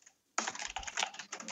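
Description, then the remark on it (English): Rapid, continuous typing on a computer keyboard by a very busy photo editor starts abruptly after a brief silence, a dense flurry of clicking keystrokes with only tiny pauses, fairly loud and with no voices. “I'm just recording your furious typing.”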